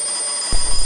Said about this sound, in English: It's 1 a.m. and the world leader's alarm goes off.